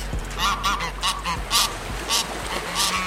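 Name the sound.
geese honking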